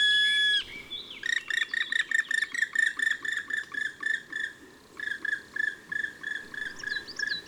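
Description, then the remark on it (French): Black woodpecker calling: a brief drawn note, then a long, steady series of loud, ringing, high-pitched notes repeated about three times a second, with no voices. “Et ses cris plaintifs.”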